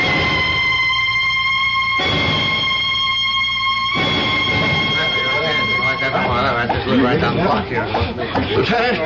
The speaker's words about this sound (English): Oh my God. Those police cars. They're coming here.